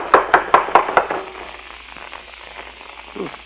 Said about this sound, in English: Now, come on. Don't rap too hard. It'll knock the door off its hinges.